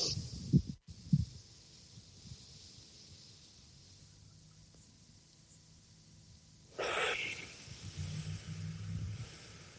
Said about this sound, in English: While you're feeling into your heart, slow your breathing. 5 seconds on inhale, 5 seconds on an exhale. We'll do this together.